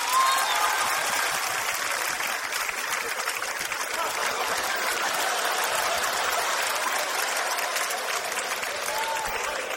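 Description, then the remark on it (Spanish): Sustained audience applause for a young performer of Peruvian comedy, a dense, steady wash of many hands clapping at even loudness for about ten seconds, with no voices standing out. “Reciba usted la ovación de su público y váyase.”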